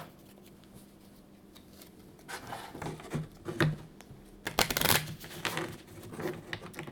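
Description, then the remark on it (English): A deck of cards being shuffled, with papery riffles and soft flicks building from about two seconds in, peaking in a dense burst near five seconds, then trailing off. “We're going to shuffle. Mare's going to shuffle again.”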